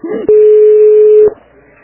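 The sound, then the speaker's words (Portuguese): A phone call from social outreach in Biguaçu to DIP 2 rings once: a loud, steady ringback tone lasting about a second, framed by soft clicks, then fading to quiet line hiss. “Contato com a DIP 2.”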